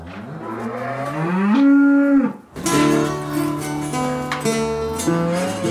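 Cows moo loudly, a long rising call breaking off briefly before more overlapping lowing from several animals, with no talking, as the cows are milked on Master Turner's farm.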